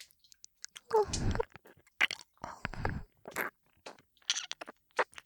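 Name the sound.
ear licking mouth sounds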